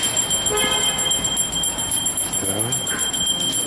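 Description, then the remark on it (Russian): A small hand bell rings steadily, reminding people to donate to the poor, its bright high tone sustained throughout, amid a busy outdoor bustle with indistinct voices. “Так, тут колокольчик звенит, говорит, не забудьте пожертвовать бедным.”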